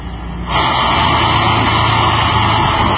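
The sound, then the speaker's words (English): A movers' truck engine rumbles loudly and steadily, jumping up in volume after a brief quieter start and then holding a constant, noisy drone with no one talking. “Movers, a truck, and an armed deputy, all while a nervous homeowner stands by and waits.”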